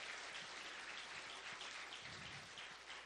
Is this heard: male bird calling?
no